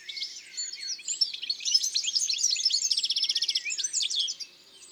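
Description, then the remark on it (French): A goldfinch in a poplar tree pours out a rapid, continuous jumble of squeaky, scratchy notes, calls and trills, including a fast repeated run of clicks mid-song and mimicry of a chaffinch's call, fading near the end. “C'est ce joli babillage, rapide, avec des cris, des roulades, des notes un peu grinçantes, et même parfois des imitations d'autres oiseaux.”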